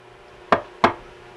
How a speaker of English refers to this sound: Okay, what if someone was knocking at the door and they knocked two times? How many times would that be?